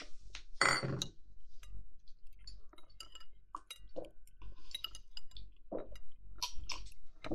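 glasses clinking

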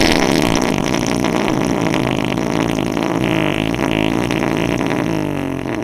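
farting

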